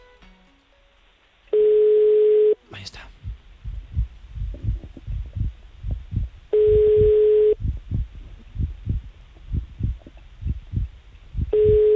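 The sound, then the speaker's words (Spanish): A telephone ringback tone sounds three times, each steady beep lasting about a second with long pauses between, over a soft, rhythmic low thumping, as a call is placed live on the Café Olé show on Radio Olé; a voice speaks briefly near the start. “Estamos marcando. A ver si hay suerte. Si no nos coge, pues mala suerte. Nos tiene que coger el teléfono.”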